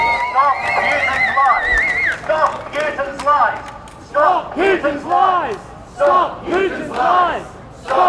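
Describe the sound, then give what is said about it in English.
A large crowd of Ukrainians, in a sea of blue and yellow, chants together at a rally against Russian aggression, starting with a sustained roar of shouting, then settling into loud, rhythmic shouted phrases repeated in steady bursts. “In a sea of blue and yellow, Ukrainians rally against Russian aggression.”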